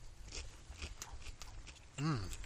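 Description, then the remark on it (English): Crunching as someone bites into a ham and spicy turkey sandwich with cheese, bacon, lettuce, pickles, tomato and barbecue potato chips added. A series of crisp, uneven chewing crackles follows, then near the end a short voiced murmur through a full mouth. “As I take another bite of this sandwich, by the way.”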